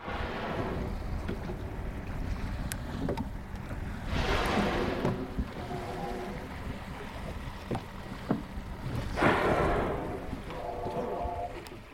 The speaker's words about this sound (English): I'm on the Sea of Cortez off Loreto Bay, and the sound we were just listening to was the blow coming from four fin whales that were surrounding our boat and coming up from the water like giant black rocks with quite a pronounced dorsal fin.